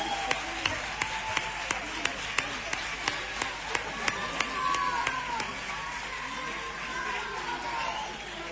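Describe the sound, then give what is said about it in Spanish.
An audience claps in a steady, rhythmic beat for a team and its coach at an end-of-season team presentation. The sharp claps stand out clearly at first, then thin out after about five seconds, while a murmur of voices and talk carries on underneath. “Un fuerte aplauso.”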